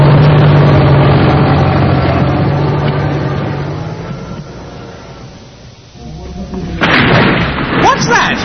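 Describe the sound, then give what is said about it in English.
A yellow bulldozer knocking down a house: a heavy engine drones and rumbles, sinking lower for a few seconds, then a sudden loud crash of breaking, tumbling debris bursts in and keeps clattering. “It's probably just your house being knocked down.”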